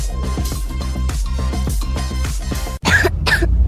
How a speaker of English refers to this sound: What about my cough? DayQuil Kids has that covered.